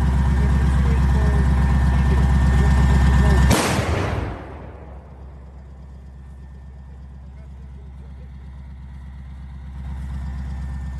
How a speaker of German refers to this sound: Ja, das ist schon sehr beeindruckend. Also wenn man, wie ihr jetzt gerade eben auch, diese Kanone hört, wie sie schießt, und wenn man sieht, was das für eine unfassbare Feuerkraft ist, also dann wabert die Maschine, Qualm, es schießt ein riesiger